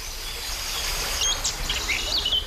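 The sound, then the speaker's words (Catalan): Several short, high bird chirps and whistles come in during the second half, fairly faint over a steady outdoor hiss, with no voices. “Algunes d'aquestes ja les hem conegut, els hi hem dedicat un capítol, com en el cas del cant dels ocells.”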